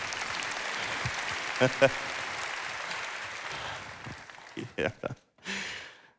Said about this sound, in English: I think we got a picture. Yeah, you better applaud.